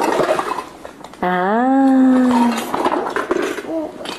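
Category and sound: vocal imitation, imitated sheep bleat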